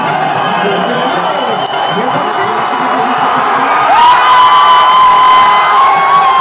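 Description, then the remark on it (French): A dense crowd of football supporters, standing before screens set up at a bar, cheers and shouts loudly and continuously as their team scores four goals and wins the World Cup final. Partway through, a steady horn-like tone rises and holds above the roar. “Au milieu d'une horde de supporters debout devant des écrans installés pour l'occasion, on se faufile, on est dedans, ils en plantent 4, et ça finit comme ça.”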